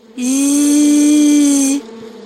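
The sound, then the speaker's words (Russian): A single steady, high whine of a small mosquito flying in through a window, with a thin buzzing edge, rising in quickly, holding at a constant pitch for about a second and a half, then cutting off. Fairly loud, with no talking. “А сейчас представь себе, что к тебе в окошко влетел маленький комарик и зазвенел.”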